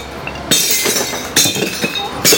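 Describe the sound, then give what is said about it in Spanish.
Glass bottles crash into a recycling bin in three loud bursts of clinking and shattering, each followed by a brief rattling tail as the glass settles. “Vamos a tirar el vidrio.”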